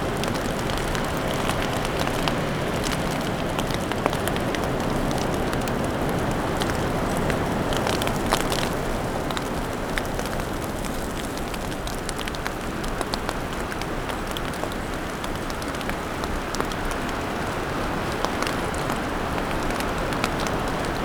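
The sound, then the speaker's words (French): A light snow shower falling, a steady soft hiss with faint scattered ticks and patters, continuous throughout, with a touch of wind and no voices. “Petite averse de neige.”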